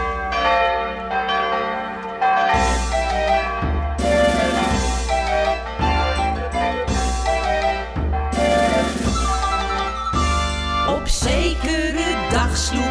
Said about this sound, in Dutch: Het is daarom dat de klokken luiden, vierde noodklok luidt.